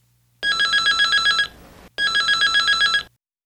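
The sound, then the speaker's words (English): A telephone bell rings in two bursts, each a rapid, buzzing trill lasting about a second, separated by a short pause. The ringing is loud, with no voices. “这是电话铃声的声音。”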